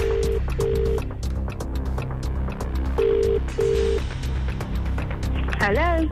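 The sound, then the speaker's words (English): A phone rings out on the line as a man calls his wife, in two short double beeps, a steady mid-pitched tone repeating after a pause, over a low background murmur. A brief voice-like sound cuts in at the end. “We will now call her and go quiet.”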